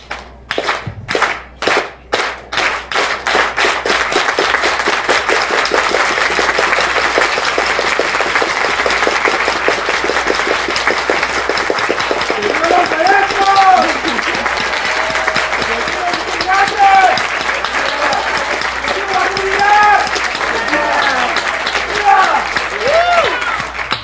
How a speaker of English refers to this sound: So they would start a clap, they would start slowly, and then eventually pick up the pace until it finally ends. So we're gonna do all do the clap together. Stand up.